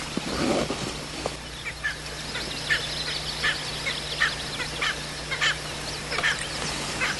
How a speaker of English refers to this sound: I can already hear some of the Ozark boys. There's some funny sounding birds.